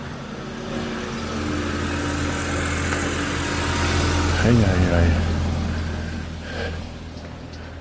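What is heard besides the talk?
busy street traffic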